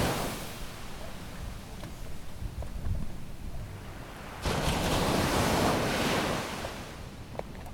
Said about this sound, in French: Alors, un jour, sur la route du phare, se dressait là une chaise abandonnée qui écoutait le bruit de la mer et des vagues.